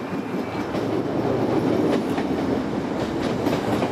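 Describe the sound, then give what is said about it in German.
A subway train in Chicago rumbles steadily along the rails, loud, with a continuous low roar and faint rhythmic clatter of wheels, no voices present. “Doch eine kurze Fahrt mit der U-Bahn bringt einen in eine andere Welt.”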